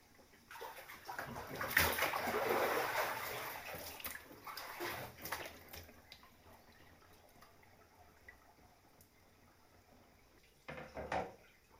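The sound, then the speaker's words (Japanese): Water sloshes and splashes in a hot bath as someone climbs out of the water to sit down, a broad surge of swishing that fades into soft drips, then a brief splash near the end. “お湯から上がってそこに腰掛けていただけるかしら。”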